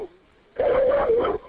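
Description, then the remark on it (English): A single drawn-out, angry dog vocalization, more a snarling growl than a sharp bark, rises abruptly, holds loud for nearly a second, then cuts off into quiet. “Wow, these dogs sound like they're getting angrier.”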